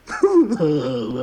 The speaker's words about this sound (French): Monsieur Joyeux, le fidèle deuxième second, regardez, je pleure.